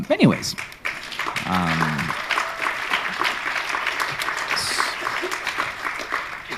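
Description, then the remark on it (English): An audience applauds steadily for several seconds, a dense wash of many hands clapping, with a few voices calling out briefly near the start. “And I appreciate the applause, but it's also about, like, what are we doing, though?”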